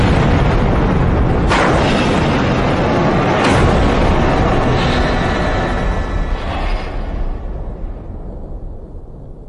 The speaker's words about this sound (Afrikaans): Ses en 20 uur later is daar 'n ontploffing in reaktor nommer 1 by Fukushima, Daiichi kernkragstasie.